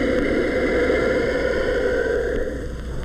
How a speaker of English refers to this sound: More in keeping with other reptiles at the San Diego Zoo, the giant tortoise also hisses.